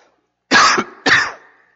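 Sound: cough and throat clearing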